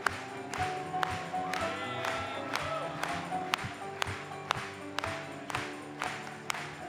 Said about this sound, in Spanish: Vamos a aplaudirle.